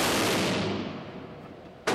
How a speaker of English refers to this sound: we brought a large 44. It's the heavy-duty revolver Dirty Harry made famous.